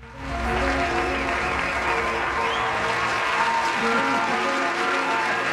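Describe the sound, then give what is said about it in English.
Canned applause swells in quickly and holds steady, a dense, even wash of many hands clapping at full volume with no voices over it. “It was a very low-key collective woo. Yes. So, and some canned applause.”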